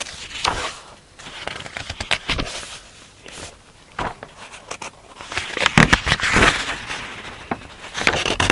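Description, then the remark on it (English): Pages of a book being turned and handled during a Torah lesson, as the speaker turns to Daf Peites Amid Beis: irregular crinkling and rustling paper sounds with sharp crackly bursts, growing louder and busier toward the end, with no one talking. “Lately I've been having a lot of trouble turning pages, sorry.”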